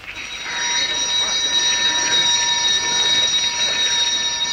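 A fire alarm sounds continuously at night, shortly after midnight, for a fire set by an arsonist; a steady, shrill, ringing tone that swells in over the first half second and then holds loud and unbroken to the end.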